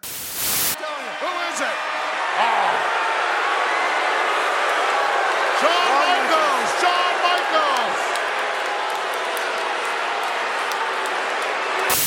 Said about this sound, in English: Two massive boos. Massive booing.